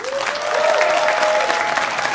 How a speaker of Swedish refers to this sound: Så hur många i publiken är för det här? Applådera ni som tycker det är en bra idé.